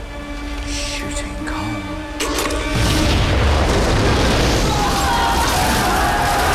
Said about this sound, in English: presses a plunger, an explosion, and prisoners and guards scream as they stumble through smoke and steam